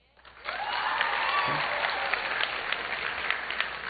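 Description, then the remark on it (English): An audience bursts into applause after a brief quiet start, a dense, steady wash of clapping with a few scattered whoops and cheers rising above it, sustained and fairly loud throughout. “You can applaud.”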